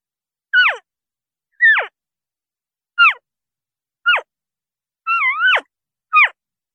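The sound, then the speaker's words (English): A person imitates elk calf calls: six short, high, squealing mews that slide downward in pitch, spaced about a second apart, the fifth longer and wavering. No talking. “I'm going to do calf sounds, which are baby elk.”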